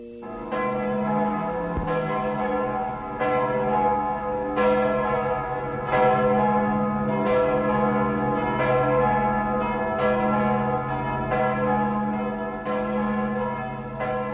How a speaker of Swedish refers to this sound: Kyrkklockorna ringde i 15 minuter efter klockan 8 i morse.